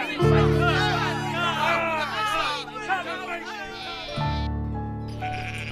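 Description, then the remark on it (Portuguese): Several sheep bleat in wavering, overlapping cries, fairly loud, over a steady low droning tone that continues after the bleats fade near the end, as the sheep are taken to a pasture in the morning. “Pedro levou novamente suas ovelhas para o mesmo pasto”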